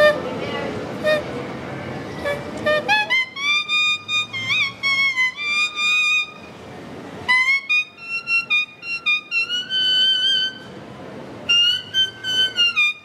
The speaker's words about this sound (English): It's astonishing enough that a man can play the Mexican Revolutionary Anthem, Adelita, on a leaf.